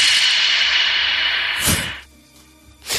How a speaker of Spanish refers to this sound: Aquí no hay absorción, excepto nosotros que estamos ahora mismo aquí dentro. ¿Ves cómo suena? Es como si tuviera eco todo lo que dice. Se genera ese efecto contrario. A ver cómo suena en esa cámara la claqueta.